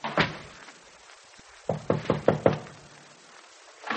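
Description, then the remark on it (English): Someone knocks on a door: one sharp knock, a pause, then a quick run of about five firm raps with a hollow wooden ring, followed by another single knock at the end. No one speaks. “And that sounds like a knock on the door.”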